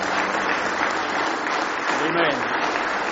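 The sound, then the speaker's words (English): A church audience claps steadily in praise of God during a morning service, a dense, sustained wash of applause, with faint voices and a brief vocal tone rising beneath the clapping. “Let's give Him one more hand clap of praise this morning.”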